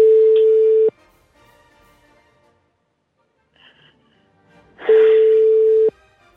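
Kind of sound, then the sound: signal or alarm, telephone busy signal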